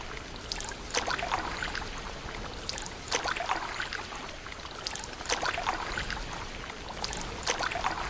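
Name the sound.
canoe paddling through water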